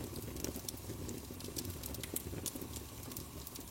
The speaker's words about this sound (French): Laisse le son du feu te transporter dans un état de relaxation profonde où chaque son devient une invitation à la détente et à la tranquillité.